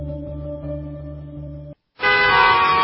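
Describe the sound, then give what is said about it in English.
Car horns blare in rush hour traffic in a long, steady honk, then a brief pause before a second, brighter horn blast. The honking is loud, with no voices. “So here you are, stuck in rush hour traffic, thinking about your back pain.”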